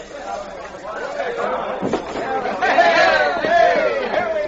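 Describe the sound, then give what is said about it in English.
A crowd of many voices chattering and calling over one another on a dock in the dark as the gangplank is lowered, a steady hubbub that swells louder in the second half with a few raised shouts. “I don't want to lose you in that crowd in the dark.”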